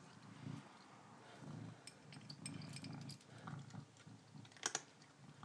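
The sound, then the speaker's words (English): A cat crunches dry kibble as it eats its supper, a steady run of quiet, irregular crisp crackles and clicks with a few sharper bites near the end. No one speaks. “Really crunchy in the food.”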